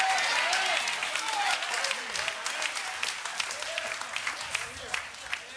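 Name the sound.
audience clapping hands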